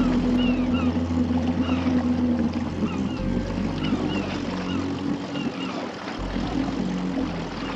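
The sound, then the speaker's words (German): A boat engine drones loudly and steadily, a deep continuous rumble with a slight rise in effort as the revs are carefully increased while towing a sailboat by rope, without any talking. “als er vorsichtig die Drehzahl erhöhte. Der Anker durfte auf keinen Fall aus dem Segelboot herausbrechen.”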